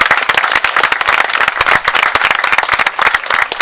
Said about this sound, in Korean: 여러분 또 칭찬 박수로 우리의 사랑을 이렇게 전달해 주시면 좋겠습니다.